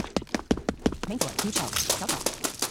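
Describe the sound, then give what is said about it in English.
Quick, evenly spaced running footsteps past crates, turning west into the repack area, thud and crunch in a steady rhythm, about four per second, moderately loud and continuing without a break to the end. “Hear these steps.”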